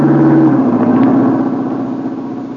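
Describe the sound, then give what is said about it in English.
A car engine drones loudly on a road, its steady pitch dropping as the vehicle passes and then fading slightly as it moves away, with no voices. “Duck, here comes the car.”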